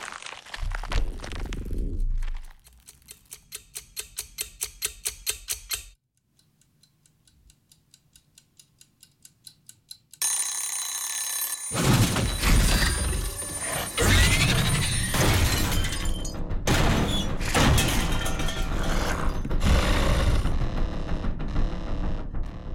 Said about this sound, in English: So our egg timer is going. And we're about to hear the egg timer from the creature's point of view. Its ears now open up.